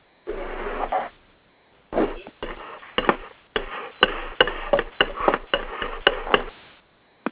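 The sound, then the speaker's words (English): Someone chopping food: a quick, uneven run of sharp knocks on a cutting board, about a dozen moderately loud strikes after a brief opening rustle, with no voices. “Somebody's chopping food or something.”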